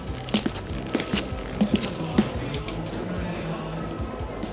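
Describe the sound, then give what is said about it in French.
Several muffled footsteps land in an uneven rhythm over the first two seconds, then fade into a low, steady background murmur with no talking. “Ils entendent des pas.”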